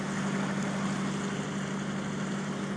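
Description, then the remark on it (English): A narrowboat engine chugs steadily as the boat cruises at about 3 to 4 miles an hour along a long, wide, straight stretch of river, a continuous low, droning rumble at an even level with no pauses and no voices. “You feel a bit lost in a little narrow boat, crawling along at about 3 to 4 miles an hour.”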